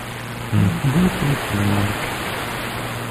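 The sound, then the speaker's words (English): A steady, even hiss of running shower water fills the whole clip, with a low voice briefly murmuring over it partway through. “He's in the shower.”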